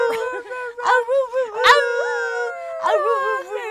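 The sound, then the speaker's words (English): A dog named Aurora howls in a series of wavering, high-pitched notes that rise and fall, including one long drawn-out tone sliding slowly downward, loud and with no talking over it. “I'm going to do my episode with the doggo in my lap.”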